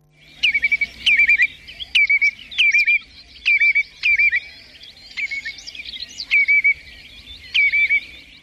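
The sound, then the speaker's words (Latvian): A bird repeats a classic alarm call over and over, about eight sharp, high chirping notes at a steady, regular pace, loud against a quiet background with no talking. “Nu, ko varbūt šobrīd mēs varētu paklausīties visums tādu klasisku saucienu, ja? Tad kā patiesībā mēs varam vienlietu ieraudzīt, vienlietu saklausīt dabā šo te putnu lūdzu?”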